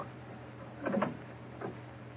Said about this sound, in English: Easy with the door. Careful.